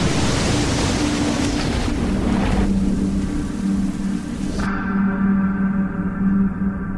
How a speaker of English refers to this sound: The two were still locked in an embrace when a wave capsized their boat, plunging both men.